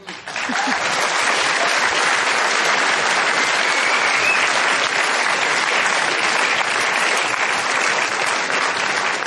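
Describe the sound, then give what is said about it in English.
A large audience claps steadily and loudly for Van Jones at the close of an Inforum and Commonwealth Club meeting, a dense, even wash of many hands with no pauses and no voices standing out. “Let's give one last big round of applause to Van Jones for sharing his thoughts with us tonight.”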